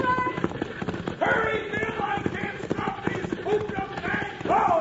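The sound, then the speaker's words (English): Hooves of horses pulling a wagon gallop in a fast, steady pounding rhythm, loud, while voices call out over the clatter. “Hold on, miss, I'll grab the horses.”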